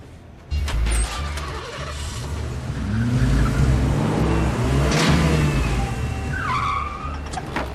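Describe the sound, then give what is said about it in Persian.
A car engine revs loudly, its pitch climbing and falling in a few surges, with a brief squeal near the end and no voices. “با این ماشینی که سوار میشی میخوای باور کنم کلی پول تو جیبت داری؟”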